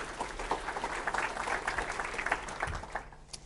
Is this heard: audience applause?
yes